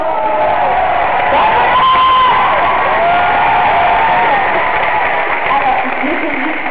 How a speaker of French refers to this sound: Je vous remercie pour l'applaudissement, tous vos sourires, toutes vos amours, tous vos cadeaux, et surtout pour votre fidélité.